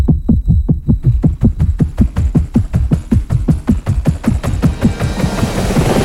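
Helicopter rotor blades throb in steady, quickening beats, loud, with a rising whine and rushing noise building beneath as the rotor spins up. No one speaks.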